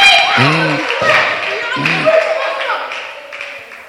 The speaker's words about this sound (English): Clap for Jesus.